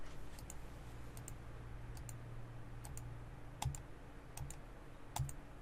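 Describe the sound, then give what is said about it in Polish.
Quiet, scattered clicks from a computer keyboard and mouse as someone presses Ctrl+S and clicks play, a dozen or so sharp taps spread irregularly over a few seconds against a low, steady background hum, with no talking. “Klikam Ctrl S, czyszczę sobie nasz błąd i klikając play.”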